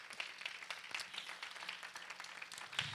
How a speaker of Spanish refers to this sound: Vamos a pedirle que todos se pongan de pie y le den un fuerte aplauso a los padres en esta hora.